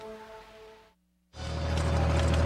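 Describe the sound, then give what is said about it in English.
After a brief silence, a soil aerator rolls behind a tractor on a golf course, a loud, steady rumble of engine and clattering machinery that swells and holds to the end. “A soil aerator rolls behind a tractor on the golf course.”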